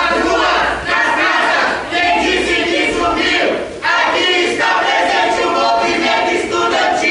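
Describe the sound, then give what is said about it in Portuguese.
A loud crowd of students with delayed scholarships cheers and chants continuously as the Comissão Mista de Orçamento (Joint Budget Committee) approves a bill opening over 4 billion reais in credit, voices overlapping in a dense roar with brief dips around the one- and four-second marks. “Com a forte torcida de estudantes que estão com bolsas atrasadas, a Comissão Mista de Orçamento aprovou o projeto que vai abrir um crédito de mais de 4 bilhões de reais”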